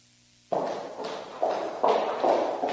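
A steady run of about six footsteps starts abruptly after a brief silence, each step landing at an even pace and growing slightly louder, as if someone is approaching from behind.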